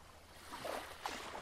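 Soft surf washes in and out on a sandy beach under a cloudless sky, with a broad hiss, swelling gently and easing back. The sound is quiet and steady, with no voices.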